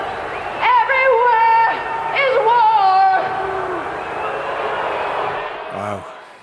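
A noisy crowd shouts, boos and jeers, with shrill whistles cutting through in a couple of bursts before the din fades out.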